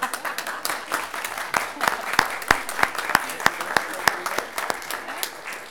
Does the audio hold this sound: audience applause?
yes